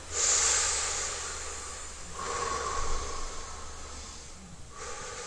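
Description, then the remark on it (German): Slow, deep breaths in and out during a guided meditation, breathy with a soft hiss, about two full breaths flowing one into the next. No one speaks. “Und jetzt schau deinem Körper in die Augen und atme dein Bewusstsein wieder zurück mit drei Atemzügen.”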